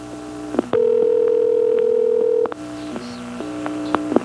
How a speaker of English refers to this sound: On this next call to 414, you can hear the hum being modulated off and on.